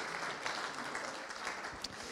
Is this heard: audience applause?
yes